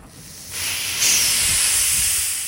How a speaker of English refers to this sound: Aromas you can smell as he releases CO2 that's built up in one of the barrels he recently recovered from the sea.